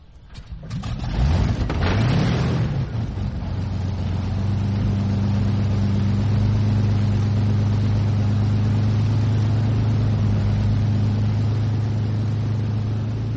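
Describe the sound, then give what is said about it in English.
A Hawker Hurricane fighter aircraft's piston engine coughs into life and quickly revs up, then settles into a loud, steady, deep droning roar with a low throbbing hum that holds to the end. “Yes, now that's a noise which brings back nostalgia. It's the hurricane.”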